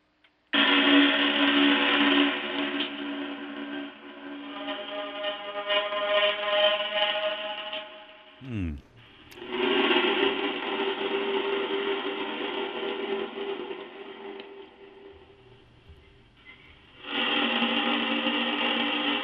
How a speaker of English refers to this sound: This one is a bit different, but and very spooky. Sounds like boat whistles in the middle of a city where there's no water near.